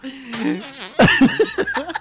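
A drawn-out, wavering, buzzy fart lasting about a second, followed right away by choppy bursts of laughter.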